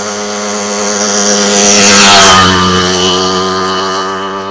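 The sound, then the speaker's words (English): A motorbike engine drones past, its buzzing note swelling to a loud peak midway and then fading as it pulls away, with a slight pitch drop as it passes. “Oh, here's a motorbike. You can probably hear it.”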